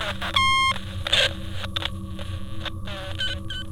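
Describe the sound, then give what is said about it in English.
A telephone rings with one short, bright electronic tone, followed by scattered clicks and faint rustling over a low, steady background hum, as a caller waits for the other agent to pick up the phone. No voices are heard. “He takes a deep breath and slips into a quiet state while he waits for the other agent to pick up the phone.”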